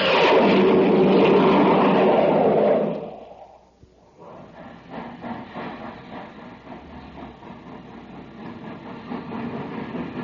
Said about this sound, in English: Say, did you hear that, gang? That was the Terra Express train trying to get up speed on ordinary fuel. Not very speedy, was it?